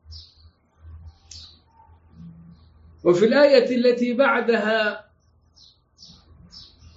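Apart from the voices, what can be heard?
small birds chirping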